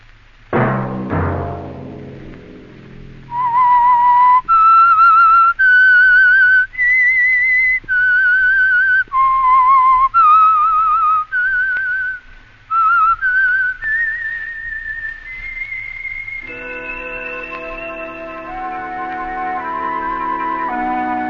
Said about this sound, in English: That whistle be your signal for the Signal Oil program, The Whistler, each Sunday night at this same time.